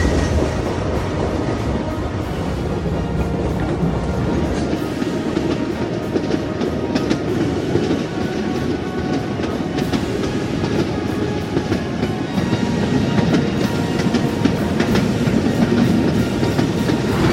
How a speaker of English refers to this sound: The train departs Cleveland at 6:25 a.m.